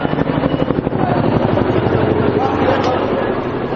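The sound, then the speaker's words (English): Loud, steady rotor chop of President Bush's convoy of green and white presidential helicopters passing overhead after leaving Ramallah for Bethlehem, a rapid rhythmic thumping layered with engine roar that continues without a break. “Thousands of Palestinians stopped to watch as his convoy of green and white presidential helicopters flew over the city on their way to nearby Bethlehem”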